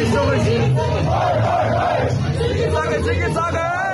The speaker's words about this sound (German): Melanie Müller ruft Ost, Ost, Ostdeutschland. Das Publikum stimmt in den Schlachtruf ein.